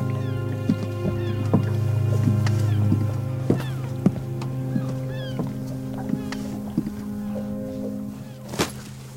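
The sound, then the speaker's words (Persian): Irregular hollow thumps and knocks of a woman's footsteps crossing moored boats at sea ring out over a steady low engine hum, ending with one sharper, louder knock. “از روی قایقا رد میشه تا میرسه به قایق نوید و میشینه کنارش”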